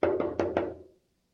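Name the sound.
knocking on a surface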